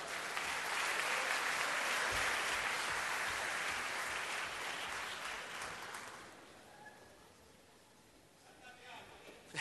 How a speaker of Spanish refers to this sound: fuerte el aplauso.